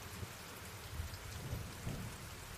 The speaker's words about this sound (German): Nachdem die seltsame Flüssigkeit zunächst nur an einer Wand entlang gelaufen war, hörten sie plötzlich ein seltsames Geräusch von oben. Es klang wie eine Art Wolkenbruch